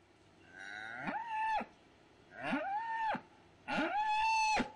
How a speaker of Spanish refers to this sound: Eso que están escuchando ahí es una vaca llorando por su cría. El momento que nace, se la sacan. Y la vaca llora todo el tiempo, durante días y días, sufriendo por la pérdida de su bebé.